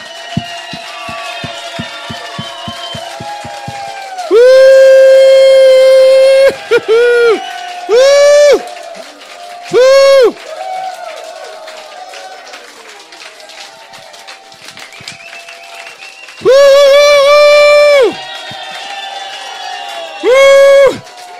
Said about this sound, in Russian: Давайте встанем, просто сделаем ему аплодисменты нашему Богу, воздадим ему славу.